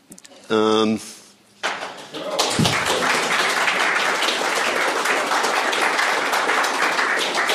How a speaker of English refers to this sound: get your applause in now.